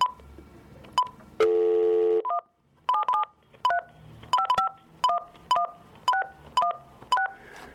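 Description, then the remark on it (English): A loud, steady dial tone hums for under a second, followed by a quick run of about a dozen short telephone keypad beeps, each a different two-note pitch, with no talking, as a phone is dialed to call back a caller whose line dropped. “We're going to dial him up again, folks.”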